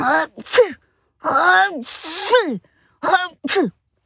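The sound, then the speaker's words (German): A voice playfully imitates an antlered animal sneezing three times after sniffing a new perfume under a Christmas tree, each a loud, breathy 'ah-choo' burst with short pauses between, the middle one longest and most drawn out. “Klar, dass es da niesen musste. Dreimal sogar.”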